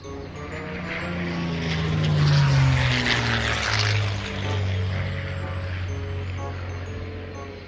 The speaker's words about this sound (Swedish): Nu kan du gissa svaret. Ett flygplan.